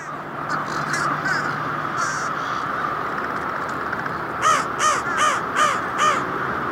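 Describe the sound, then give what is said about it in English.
A fish crow gives a run of about five short, nasal calls in quick, even succession, clear, after a stretch of quieter background hiss with faint earlier calls. “That's the fish crow.”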